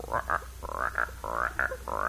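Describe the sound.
A person imitates a medium-sized frog with a rapid series of throaty, croaking calls in an uneven rhythm, fairly loud.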